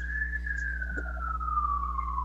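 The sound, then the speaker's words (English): An emergency siren wails outside, a single steady tone gliding slowly downward in pitch, heard faintly over a low background hum with no one speaking. “Yeah, whose sirens are those?”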